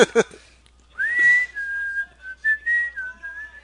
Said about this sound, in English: I shouldn't whistle around dogs.